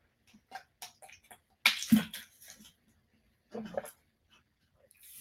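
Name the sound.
drinking water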